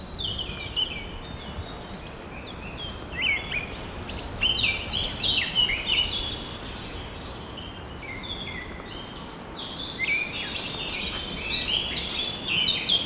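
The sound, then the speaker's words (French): Birds sing and chirp in a forest with many trees at Sainte-Croix-Volvestre, in the foothills of the Pyrenees, bright overlapping calls coming in bursts over a steady rustling ambient background, with no voices. “Beaucoup d'arbres, beaucoup d'oiseaux.”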